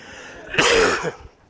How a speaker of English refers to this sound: I'm going to try not to cough on you all morning. But you'll probably still get spit on.